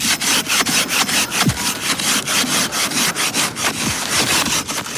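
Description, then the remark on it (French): A hand saw rasps steadily through a block of ice, cut like a stone block for building, in quick, regular back-and-forth strokes, loud, with a few low thumps along the way and no talking. “On est en train de tailler des blocs, un peu comme si c'était des blocs de pierre en fait, mais de glace du coup.”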